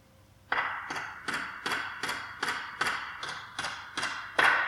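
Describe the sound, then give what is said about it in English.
A hammer strikes nails into wood for a crucifixion on a hill outside Jerusalem. There are about eleven sharp ringing blows in a steady, evenly spaced rhythm, with the final strike the loudest. No voices are heard. “The banging of nails into wood.”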